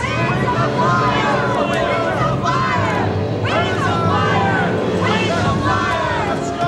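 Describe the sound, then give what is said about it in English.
A dense crowd roars and shouts continuously, many overlapping voices rising and falling in agitated cries, loud throughout, as the crowd falls upon false sages shut out of a temple. “The servant girls rush back into the temple and Kafar closes the door, preventing the false sages from entering as the crowd falls upon them.”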